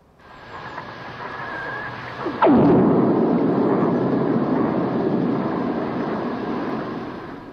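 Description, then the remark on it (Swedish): A lightning strike recorded underwater in the Gulf of Mexico, a very deep sea: steady watery hiss, then a sudden loud crack that sweeps downward in pitch and gives way to a long, rolling rumble that slowly fades. No voices. “Det är alltså ett blixtnedslag, så som det låter om man är under vattenytan.”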